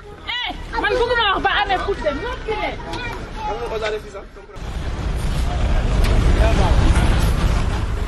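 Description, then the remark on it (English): A group of children sing together in high, wavering voices for about four seconds as they walk home from school at midday on a Monday, then the singing gives way to a louder, steady rumble of street traffic. “Children are singing as they are walking home from school.”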